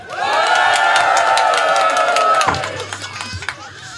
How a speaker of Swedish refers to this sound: Men vi skulle vilja ha ett jubel så det låter lite gött. Kan vi få med det? För det blir ungefär som i höst sen när vi sitter och lyssnar på det här. Kommer vi tänka, gud vad mysigt vi hade på Lillerudsdagarna. Vi får ett jubel. 1, 2, 3!